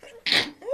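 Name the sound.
sneeze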